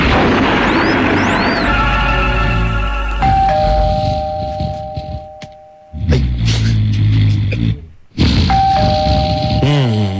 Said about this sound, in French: Non mais qui s'amuse avec cette sonnette là? Y'en a qui aimeraient bien dormir, hein.